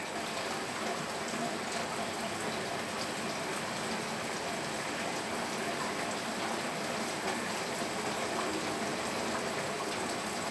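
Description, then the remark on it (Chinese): Steady rain patters outside a window, recorded on a Redmi K100 Pro Max, a dense, even hiss of drops on surfaces that continues without pause at a moderate level. No one speaks. “窗外正在下着雨，您现在听到的窗外的雨声的录音设备来自于 Redmi K100 Pro Max。”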